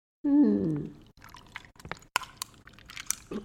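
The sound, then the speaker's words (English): A boxed margarita cocktail poured over ice into a glass: a brief gurgling splash followed by irregular crackles and sharp clinks of ice settling. “You just open it and pour it over ice.”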